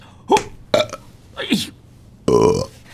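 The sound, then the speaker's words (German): A run of four burps caused by air-swallowing, short voiced belches spaced irregularly, the last one longer and louder with a rough, buzzing tone; no talking over them. “Ach, diese verfickte Luftschluckerei!”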